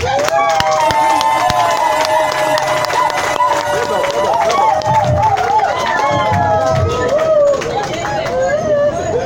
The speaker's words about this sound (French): Merci pour vos acclamations. Merci à vous.